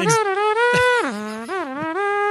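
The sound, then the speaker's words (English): A voice imitates the droning hum of milk-delivery drones: a loud, continuous nasal buzz that slides down in pitch partway through, then wavers and lifts slightly, like a swarm of insects. “I'm just picturing like Ride of the Valkyries playing over the background as like this humming sound.”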